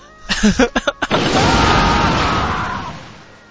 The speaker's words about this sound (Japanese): はい、誰かこう、モロとか言ってたんで、とりあえず自分で大砲撃っときました。